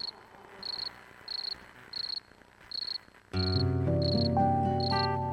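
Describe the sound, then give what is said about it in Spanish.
A cricket chirps in steady, evenly spaced bursts, clear; partway through, gentle music swells in underneath while the chirping continues. “Sereno, contento, el grillo comenzó a cantar nuevamente sus melodías de amor.”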